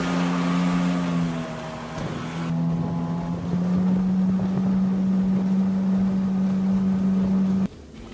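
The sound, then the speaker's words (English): A small homemade boat, built by the craftsman himself, moves on water; its motor drones steadily, a low engine hum mixed with rushing water and wind buffeting the microphone, until the sound cuts off abruptly near the end. “It must be a great pleasure and pride to be on a boat that you have built yourself.”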